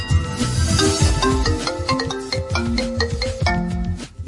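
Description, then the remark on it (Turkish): A mobile phone ringtone plays a bright, looping electronic melody over a steady thumping beat, loud, with no voices. “1973 yılında icat edilen bu nesne cep telefonu.”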